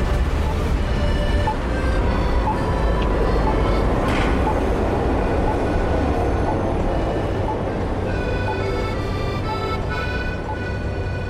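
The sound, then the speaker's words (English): A Zagreb tram rumbles steadily along its rails, a constant low roar with high metallic squealing tones from the wheels, fairly loud throughout, with a brief sharper screech partway through. “Maybe because of the trams which were once all blue.”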